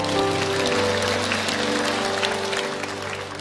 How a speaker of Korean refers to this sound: 박수 올려드리겠습니다.